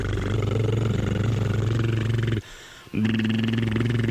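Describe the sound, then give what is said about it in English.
Someone buzzes their lips to imitate an idling engine: a steady, low, rumbling drone that cuts out for half a second, then starts up again just as loud. “I'm idling my lips.”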